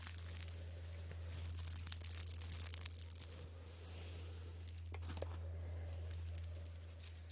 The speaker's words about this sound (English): lavender dried. So it has a nice crunchy sound.